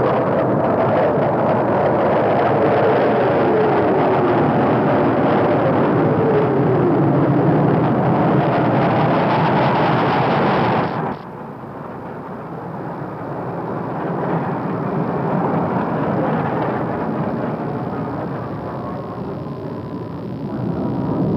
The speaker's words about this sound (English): As you've heard, 50 Air Force fighter planes, one for each of the nation's 50 states, has streaked across the blue sky here over the gravesite.